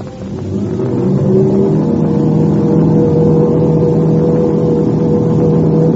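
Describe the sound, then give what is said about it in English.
The engines of an English aircraft swell to a loud, steady roar within the first second as it revs its motors for takeoff, holding a dense, droning rumble with a constant pitch throughout. No voices are heard. “The English ship's revving up its motors.”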